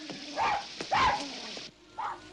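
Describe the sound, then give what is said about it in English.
A small dog, Bobby, barks three times in short, high-pitched yips over a steady hiss of falling rain. “Sounds like Bobby.”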